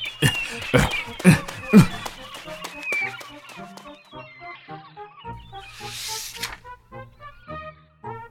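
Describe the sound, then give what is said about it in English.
A flock of gulls at a picnic on the sand squawking and crying over one another in a dense, overlapping chorus of harsh calls as they take the sandwiches, with a brief rush of noise partway through. “Ugh. Oh no! Gulls!”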